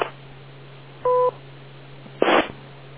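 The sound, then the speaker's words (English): A single short, steady two-tone radio beep, about a quarter second long, followed a moment later by a brief crackling burst of static over a low constant hum. “but do wait for the beep.”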